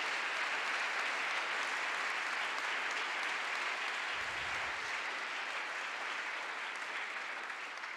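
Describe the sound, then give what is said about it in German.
A church audience claps steadily for several seconds in thanks to everyone helping with the service, a dense, even wash of many hands with no gaps, holding its level before easing slightly at the end. No one speaks over it. “Und dafür mal vielleicht einen kleinen Applaus und Dank an alle, die heute hier so viel machen.”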